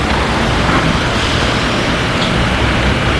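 city street traffic noise

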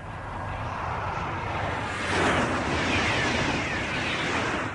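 high-speed TGV train passing

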